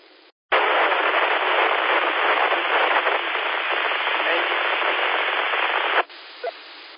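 A loud burst of radio static and hiss, interference from another repeater's input heard over a radio repeater, fills about five and a half seconds, band-limited and steady, ending abruptly, with fainter noise before and after it.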